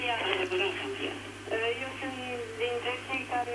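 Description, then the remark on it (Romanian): A radio plays behind a telephone call, its voices coming through thin and band-limited over the line, continuous and fairly loud, with a steady low electrical hum underneath. “Vă rog să închideți aparatul de radio și să vorbim doar la telefon.”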